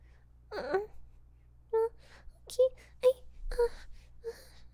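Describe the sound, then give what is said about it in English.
A person imitates a puppy with a whiny yelp followed by four short, high-pitched barks in an uneven rhythm, each yip sharp and moderately loud over a low steady hum. “You want me to bark again?”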